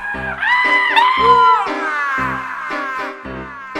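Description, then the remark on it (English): A voice lets out a loud, high-pitched scream in imitation, drawn out in wavering wails that swoop and slide over about four seconds, with a steady lower tone underneath. “And if you heard it like I did, you'd surely scream. Yes, you would scream. You'd scream like this.”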